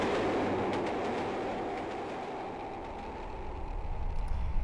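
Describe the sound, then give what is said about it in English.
A passenger train from Reading towards London rumbles steadily along the tracks, a continuous low roar with faint clicking of wheels, heard from inside the carriage at a moderate, even level with a slight swell toward the end. “I've now caught the train from Reading towards London”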